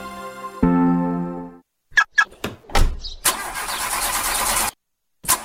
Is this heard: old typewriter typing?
no